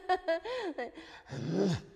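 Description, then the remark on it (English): A voice imitates a dog growling as the first practice step in learning throat singing: a few short voiced yelps and gliding tones, then a low, rough, rumbling growl that swells and drops away at the end. “Some of the people that I've tried to teach to throat sing, I tell them they have to spend 1 year trying to sound like their dog first, like growling.”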